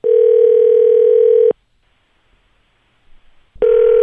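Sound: telephone dialing tones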